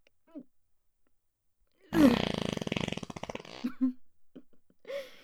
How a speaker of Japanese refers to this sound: 今日のおならも強烈ですね。まだうんちしてないからですかね。